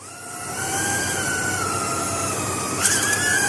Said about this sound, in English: It's not quite the gentle hum of a honeybee, but this tiny insect-sized drone is flying between lily flowers, collecting and dispersing pollen, just as a bee would.